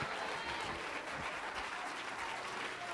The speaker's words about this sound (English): Oh, let's clap our hands and let's bless him. Let's praise him a little bit.